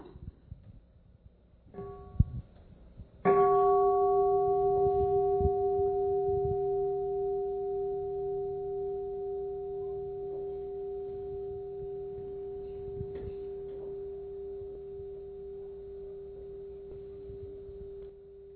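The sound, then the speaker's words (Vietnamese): A large bell, sounded before a song used as a practice piece, is tapped lightly once, then struck fully, its deep resonant tone ringing out alone and slowly fading over many seconds. “Các vị nghe tiếng chuông, rồi theo dõi cái bài hát này như là một cái bản nhạc thực tập.”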